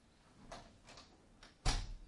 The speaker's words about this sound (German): Ja, man kann es euch auflassen. Aber nur die Tür zuziehen.